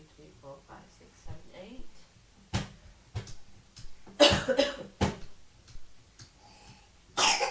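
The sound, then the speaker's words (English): A young boy coughs several times in short, harsh bursts, with a quiet voice murmuring between the coughs and a couple of faint clicks in the background. “He's got a bad cough, haven't you, darling?”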